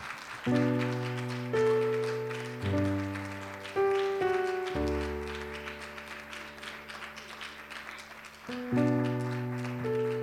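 A standing audience at First Apostolic Church claps steadily throughout to welcome a guest speaker to the pulpit during morning worship, the applause partly masked by loud, sustained organ chords that shift every couple of seconds. No one speaks.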